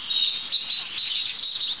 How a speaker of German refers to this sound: So, wir haben die 3 Rotkehlchen jetzt hinter uns gelassen und hier sind wir jetzt schon beim 4.